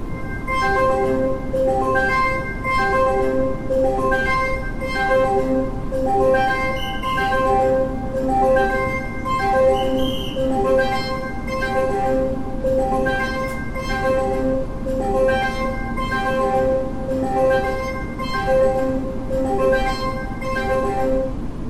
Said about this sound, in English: And, well, that's the sound of Taiwan's high-speed rail before it departed from the Banqiao train station to Taoyuan, which is located in the same place of the Taoyuan International Airport.